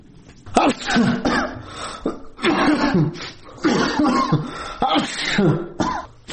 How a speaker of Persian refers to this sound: در بستر بیماری عطسه می‌زند.